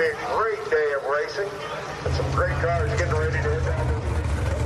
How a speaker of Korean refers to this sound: 공기를 가르는 폭발적이고 우렁찬 자동차 엔진 소리를 직접 가까이서 들으니 더 신기했습니다. 저희는 최고의 드래그 레이스 경주용 자동차들을 보유하고 있습니다.